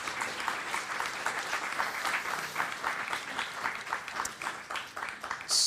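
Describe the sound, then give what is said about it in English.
A steady round of audience clapping for an author and his book before questions from the floor, many hands at once, dense, crackling applause that holds at an even level for several seconds without any talking. “But before I do that, round of applause”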